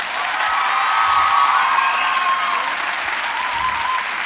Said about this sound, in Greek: Για να χειροκροτήσουμε να δω πώς ακούγεται αυτό.